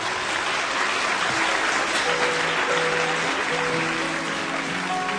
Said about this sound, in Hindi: आप हैं हिंदुस्तान के मशहूर सारंगी नवाज उस्ताद सुल्तान खान साहब, ज़रा तालियों से इस्तकबाल कीजिएगा।